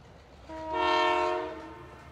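A train horn blares in a single sustained, chord-like blast that swells and fades over about a second and a half, over the low rumble of an approaching train bound for Paris; no one speaks.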